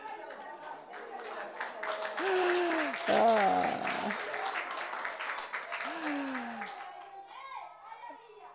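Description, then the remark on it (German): A crowd claps steadily in dense, fast applause for about seven seconds at a baptism in water, with children's voices calling out over it before the clapping thins and fades. “Und Beifall wird geklatscht”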